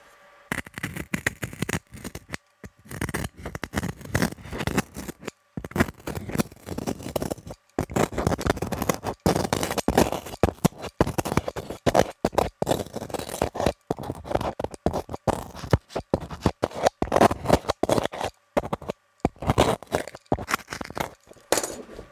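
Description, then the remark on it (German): Harsh scraping and tearing sounds of the surface of a loudspeaker being cut through, coming in rapid irregular bursts with short pauses, fairly loud with no talking. “Ich zerschneide die Oberfläche.”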